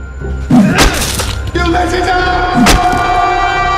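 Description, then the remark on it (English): Two heavy, splintering thuds land about two seconds apart as a porter hacks at a wooden door with an axe, each strike followed by ringing, crackling resonance over a steady background hum. “The porter begins hacking at the door with an axe, but the door's no longer there.”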